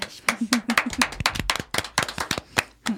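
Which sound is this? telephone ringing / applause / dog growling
applause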